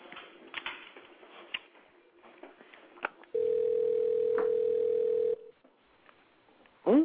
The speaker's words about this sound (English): Every time that phone rings, honey, the girl shut up real quick.